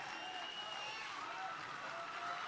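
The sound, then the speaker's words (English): A crowd applauds steadily, dense clapping forming a constant hiss-like wash for the whole stretch, with faint voices and whistles rising through it. “More applause? Really?”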